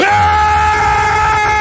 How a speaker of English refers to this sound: Does that make you angry out there? Let me hear your war growl.